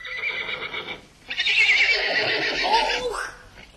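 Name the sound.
horse neighing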